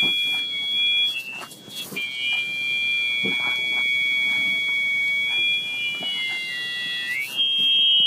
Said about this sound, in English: This sound happens when the hearing aid mold is not sealing in your ear canal. You will then hear squealing or feedback from the hearing aid.